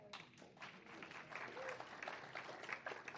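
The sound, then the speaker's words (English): An audience claps together in a steady, dense wash of applause that fills the whole stretch at an even level, many overlapping hand claps with no single beat standing out. “Clap, yeah.”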